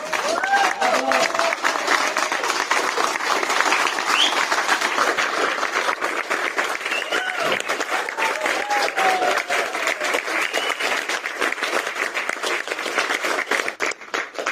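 A large concert audience applauds steadily for the whole stretch after a performance with double bass, drums and grand piano, a dense, even wash of clapping with scattered cheers and whoops rising above it, sustained at full strength before easing slightly at the end.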